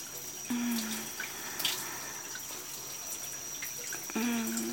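Water runs steadily from a tap in a broad, hissing wash as a person is rinsed off, with a couple of brief low tonal hums breaking in near the start and end; no one speaks.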